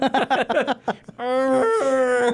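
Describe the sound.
A person makes a few quick vocal sounds, then holds a long, strained, whiny note, imitating the whimper of a sick dog, fairly loud.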